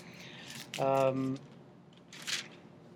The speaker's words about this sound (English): Do you hear the flimsy pages turning? Very, very thin pages. Wafer thin.